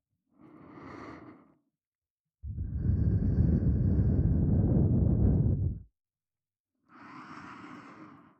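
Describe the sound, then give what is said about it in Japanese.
Breath blown right up against the ear as a sudden prank: a soft exhale, then a long, close, rushing blow of air lasting several seconds, followed by another gentle breath. No talking. “ご主人様は、こんな風に突然耳に吐息を吹きかけられるいたずらをされたことがありますか？”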